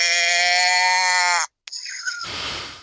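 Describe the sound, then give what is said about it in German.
A calf bleats loudly: one long, steady, strained call, a brief pause, then a shorter wavering bleat that fades into a rough, breathy rush of noise. “Da ist Kälbchen gekommen.”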